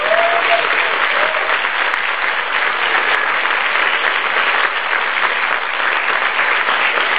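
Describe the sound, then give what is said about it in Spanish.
An audience applauds the invited guests steadily for about seven seconds, a dense, even wash of many hands clapping at a consistent loud level with no pauses and no one speaking. “Yo quiero que le demos un aplauso a los invitados.”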